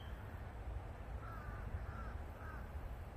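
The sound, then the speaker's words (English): Crows caw three times in quick succession over a steady low outdoor rumble like wind or traffic. No one speaks. “And the crows are very active, so.”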